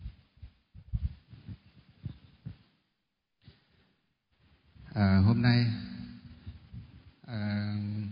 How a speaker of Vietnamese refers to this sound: Nên cho cái quạt lùi ra xa một chút, gần quá.